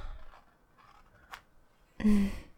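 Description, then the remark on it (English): A quick rasping zip as the long zipper of high-waisted trousers is pulled down, a short burst of scratchy friction after a moment of quiet rustling and a small click. “Take my zipper down.”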